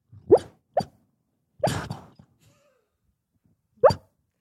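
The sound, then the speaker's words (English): A sleeping dog whimpers while dreaming and lets out muffled little yips, four short soft bursts spaced irregularly with quiet gaps between, with no talking. “The dog's having a dream.”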